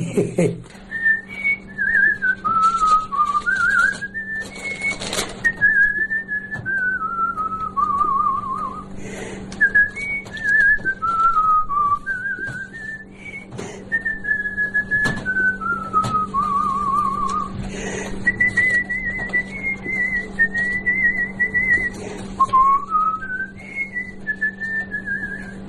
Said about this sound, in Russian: С детства свистел, так все и насвистываю. Сейчас ведь вот тоже все соседи смотрят. Старое все что-то насвистывает, ходит. А у меня само собой получается. Все хожу и все насвистываю что-нибудь. Какую-нибудь песню вспомню, я насвистываю.